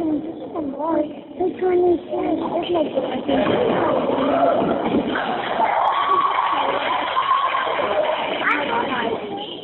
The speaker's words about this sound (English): It sounds like it's a basketball game. Yeah, that's what I think. It sounds like a basketball game because you can hear a ball dribbling and you can actually hear sneakers squeaking. You can hear the sneaker squeaking.